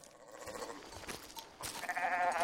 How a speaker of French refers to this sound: Oh, bah on a déjà des sons de moutons. Ça va vous donner sans doute une vague idée du lieu où on peut se trouver.